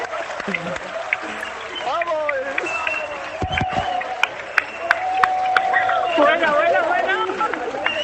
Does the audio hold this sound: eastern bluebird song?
no